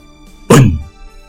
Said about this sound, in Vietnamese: đánh một chưởng vào hòn đá cứng rắn, làm cho đá bị đánh vỡ tan ra